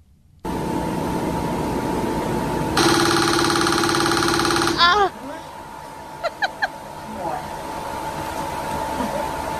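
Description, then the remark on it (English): A TMS machine, recorded during a TMS treatment session, fires a rapid train of clicking pulses that blur into a loud, rattling buzz for about two seconds over a steady electrical hum, followed by a few faint chirps. “And so here's what it sounds like to get the TMS.”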